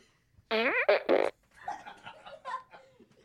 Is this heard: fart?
yes